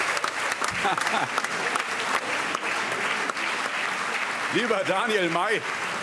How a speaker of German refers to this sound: Lieber Daniel May, wir befinden uns zwar mitten in einer Wahlhandlung. Applaus